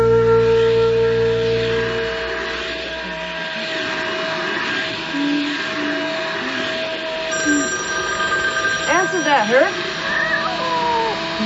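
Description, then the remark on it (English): A telephone rings with a steady electronic tone while a cat, Sandy, meows a few times near the end over a low background hum. “worthless cat. Can't answer the phone.”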